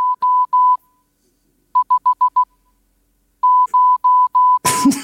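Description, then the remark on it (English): Steady mid-pitched Morse code beeps in three bursts: a few long tones, then five rapid short ones, then a run of long dashes, ending in a sudden rustling noise. “And if you're a Morse code fan, it's episode...”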